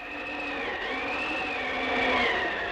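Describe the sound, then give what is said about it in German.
A steady, high whistling of wind through narrow cracks after the rain has stopped, its pitch slowly rising and sagging over a constant airy rush, with no talking. “Der Regen hatte endlich wieder aufgehört, aber der Wind pfiff durch die Ritzen.”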